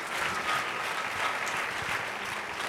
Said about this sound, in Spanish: Aplauda más fuerte al Rey de Reyes, señores, señores.